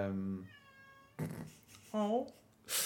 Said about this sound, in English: Yeah, I don't know if that's getting picked up on camera. My cat's outside the door screaming.